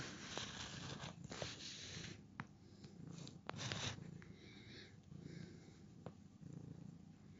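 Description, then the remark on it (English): A cat named Peanut purrs steadily, a continuous low rumbling drone broken by a few sharp rustles and clicks, with no talking over it. “Supposed to be a good cat.”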